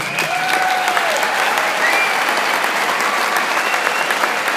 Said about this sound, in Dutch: Dus applaus voor die mensen.